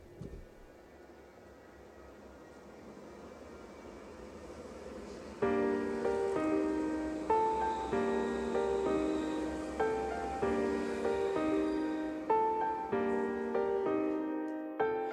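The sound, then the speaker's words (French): A rap song intro by a rap group from Montpellier opens with a steady airy whoosh like wind or engines, then a loud instrumental beat with repeating melodic notes abruptly kicks in and carries on, no vocals yet. “On va faire une première petite pause musicale avec …, un groupe de rappeurs montpelliérains”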